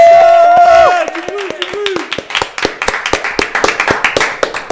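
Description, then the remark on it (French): After a couple of seconds of voices, a small group of Transistor radio hosts breaks into clapping, applauding themselves at the end of a 12-hour live broadcast for radio day; sharp irregular claps at a lively pace continue to the end. “Et je crois qu'on peut encore s'applaudir parce que franchement, c'était beau.”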